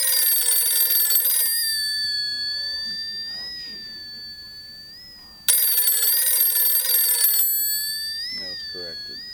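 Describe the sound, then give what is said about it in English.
A bell on buoys rocking back and forth in the water of a harbor clangs twice, about five seconds apart. Each loud, bright strike rings out with shimmering high overtones that slowly fade, over a faint low murmur. “Not buoys, but buoys rocking back and forth in the water, and the bell on the buoys is what gives away the WoW in this track.”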